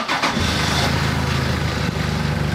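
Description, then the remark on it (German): A pickup truck's engine, started by a mechanic in the backyard of a workshop in Uzhhorod, Ukraine, where vehicles are repaired for the front, cranks briefly and catches, then settles into a steady, loud low idle, with no voices. “Dann startet er den Wagen.”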